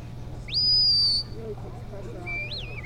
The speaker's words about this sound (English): Their handlers use a series of whistled and verbal commands to tell the dogs where to go and what to do.